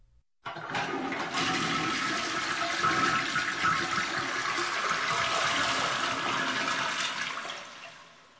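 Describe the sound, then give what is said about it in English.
A toilet flushes, a loud, sustained rush of churning water that starts abruptly and roars steadily for several seconds before beginning to taper off, as a goldfish is flushed down it. No one speaks. “Sorry, I had to flush my goldfish down the toilet.”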